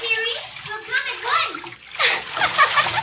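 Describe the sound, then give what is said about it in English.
Water splashes and sloshes continuously in the waves for a few seconds, with bursts of churning spray rising and falling, while indistinct voices murmur underneath. “Oh, I love to watch them tumbling and leaping in the waves.”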